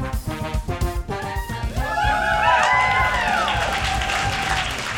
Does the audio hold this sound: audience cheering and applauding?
yes